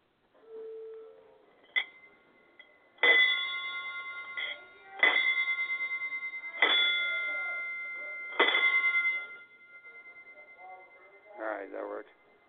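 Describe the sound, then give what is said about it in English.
A faulty bell is rung quickly over and over in steady succession for about ten seconds, each bright ring overlapping the fading tone of the last, loud, with brief voice sounds at the start and end. “Okay, yeah, there's definitely something wrong with that bell, so we're going to have to send you out a new one.”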